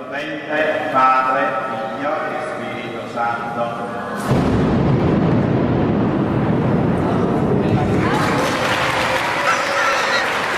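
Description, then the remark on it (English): Voices chant in a steady tone until the end of a final prayer, then a sudden, loud lightning crack from a nearby strike bursts out with rolling thunder, and the large audience soon breaks into sustained applause. “At the conclusion of the final prayer, lightning strikes nearby.”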